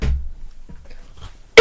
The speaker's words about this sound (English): I'm taking this time to cough.